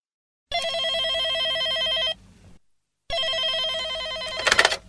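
A telephone rings twice with a classic trilling bell, each ring lasting over a second and a half with a short pause between, loud, followed by a clunk as the receiver is picked up.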